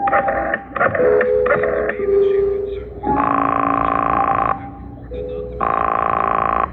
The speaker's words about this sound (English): I had an uneasy feeling in the pit of my stomach as I went to a phone and dialed my number and waited for it to ring.